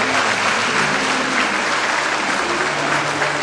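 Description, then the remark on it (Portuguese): Steady, dense applause from a crowd for a young man who came forward to accept Jesus, many hands clapping together in a continuous wash of sound at an even loudness throughout, with no voices standing out. “Vamos dar uma salva de palmas para esse jovem.”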